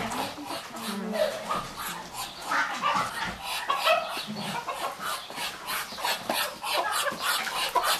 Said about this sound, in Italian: Le oche.